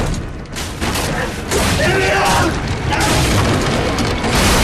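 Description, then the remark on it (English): A heavy object falls off a forklift, crashes to the ground and shatters, producing a loud, dense burst of booming, rumbling noise that continues for several seconds with scattered clattering debris. “It falls off the forklift and shatters as it hits the ground.”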